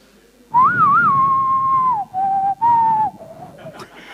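A person whistles a short, cheerful melody, clear and loud, in three phrases with brief pauses, the first phrase starting with a quick wavering trill, over soft background rumble.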